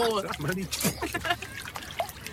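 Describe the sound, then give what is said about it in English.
Water sloshes and trickles in short, splashy bursts as it is roughed up, as if churned by hand, with voices chattering over the top throughout. “Let's rough the water up a bit.”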